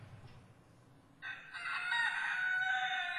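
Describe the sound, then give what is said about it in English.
A rooster crows loudly, one long sustained cock-a-doodle-doo starting after a quiet low rumble, with a hint of hens clucking around it. “Chickens!”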